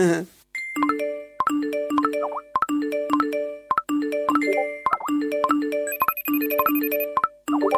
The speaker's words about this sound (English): One colleague even told me about downloading a scheduling app to help her plan her day. However, after being continuously bugged by notifications, well, you know what happened there.